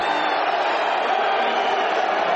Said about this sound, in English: Both loud boos and cheers could be heard as President Trump, joined by his sons Don Jr. and Eric, as well as several congressional Republicans, took their seats at the mixed martial arts fight at Madison Square Garden Saturday night.